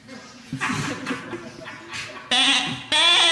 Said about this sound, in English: That's my pet goat, Chester. He's my partner in crime. Ain't that right, Chester? That's classic Chester for you.